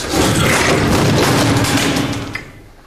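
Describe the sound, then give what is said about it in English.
A heavy dresser is tipped over and slams onto the floor, a loud booming crash with a deep rumble and rattling clatter that holds for about two seconds, then dies away. “Help me tip it. You got a grip? Yeah. 1, 2, 3. Now!”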